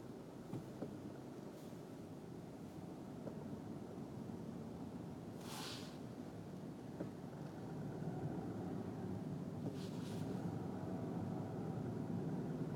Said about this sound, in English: I see no police. But there's so much traffic.